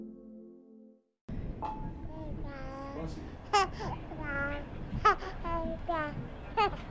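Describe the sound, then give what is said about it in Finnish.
A baby babbles in a stream of vowel sounds among travelling passengers, breaking into several high, sharp squeals, heard over a steady low rumble of background noise after a brief pause at the start. “Vauva ilakoi ja hihkuu.”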